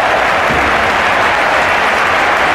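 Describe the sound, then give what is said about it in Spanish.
Loud, steady applause from an audience for a participant after a multiple-choice quiz question, a dense wash of many hands clapping at once that holds evenly for a few seconds with no voices on top. “Pero esos aplausos a nuestro amigo.”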